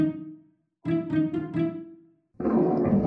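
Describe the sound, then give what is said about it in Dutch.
Deep, rumbling animal growling from inside a closet in a bedroom: a short growl, a pause, then a longer pulsing growl, ending in a louder, rougher burst like a snarl or roar. No one speaks. “Er gromt iets in de kast.”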